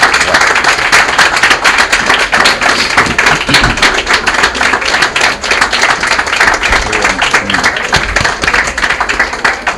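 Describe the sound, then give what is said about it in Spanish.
Sustained standing applause from an audience paying tribute to author Roberto Cazorla at the presentation of his work Que un gallo me cante para morir en colores, a dense, steady patter of many hands clapping at constant loudness throughout, with no voices standing out. “Bueno, vamos a sellar precisamente este aplauso que puestos de pieles estamos tributando hoy a Roberto con esta placa en que le decimos a Roberto Cazorla, al presentar su obra Que un gallo me cante para morir en colores, un tributo nostálgico”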